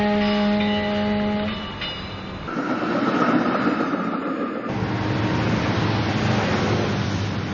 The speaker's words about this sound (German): Eisenbahnzug